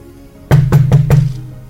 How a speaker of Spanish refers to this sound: Golpean la puerta, 11 de la noche.